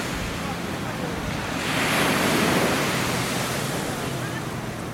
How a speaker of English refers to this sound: Okay, so the walk to this beach was about 15 minutes. Although it's a hill all the way up, going back. Here's the beach.